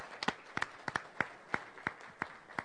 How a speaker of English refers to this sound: Madam President and members of this body, I'd like to give a big round of applause